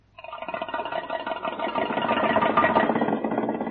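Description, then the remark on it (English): An old car engine cranks over and settles into a steady, rhythmic chugging idle that swells slightly louder as it runs, with no voices present. “All right, I'll crank her up.”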